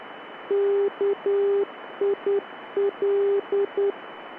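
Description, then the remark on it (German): A steady Morse code tone beeps out a short beacon identifier of dashes and dots in three letter groups, heard clearly over a constant layer of radio static hiss. “Das Rufzeichen des NDB auf dem Flugplatz Kiel-Holtenau auf der Frequenz 353 kHz lautet zum Beispiel KIL. Hier ein Mitschnitt dieser Barke.”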